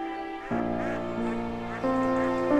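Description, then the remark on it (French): A flock of ducks quacks as they fly high over a lake, a dense, overlapping chorus of nasal calls that swells slightly louder toward the end. No one speaks. “Des canards survolent le lac, mais ils sont trop hauts pour le fusil de papa.”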